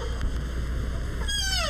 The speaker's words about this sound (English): These baby deer fawn.